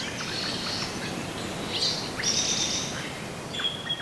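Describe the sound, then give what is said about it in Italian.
Wild birds sing over a steady hiss of background noise, with several high, bright chirps and short whistled phrases overlapping at a moderate level, and no one speaking. Recorded in the Cervara oasis, a nature reserve on the Sile river near Treviso, Italy. “Gli uccelli rappresentano senz'altro gli abitanti più appariscenti dell'oasi di Cervara.”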